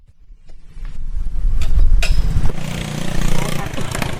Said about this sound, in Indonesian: menyalakan motor bebeknya. Ketua tani muda di Desa Santan, Kabupaten Kartanegara, Kalimantan Timur ini hendak menengok kebun milik warga yang mulai berproduksi.